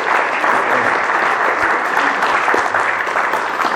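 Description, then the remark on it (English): Loud, sustained applause from a large church audience for former voodoo priests now attending the church, a dense wash of many hands clapping steadily at an even level for the whole stretch, with no distinct voices standing out. “That is deserving of applause, because these people were serving demons less than several months ago, and now they're sitting in church, baptized and serving the Lord, giving their testimony in church, standing up doing solos in church for worship”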